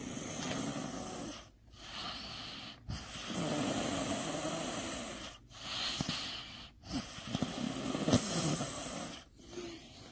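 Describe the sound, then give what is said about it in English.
A very tired toddler girl snores steadily in sleep, each long raspy, breathy inhale and exhale broken by short pauses, repeating about six times with no other voices. “She has been snoring ever since she was a baby.”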